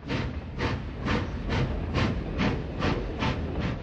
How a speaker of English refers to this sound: The recordings of steam trains are on ….